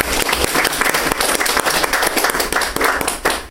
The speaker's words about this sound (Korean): 정말로 이 회복센터를 이끌어 가시고 그동안 묵묵히 오늘도 또 묵묵히 일하시고 계시는 이혜왕 선교사님께 저희들이 감사의 박수를 안 드릴 수가 없는 것 같아요.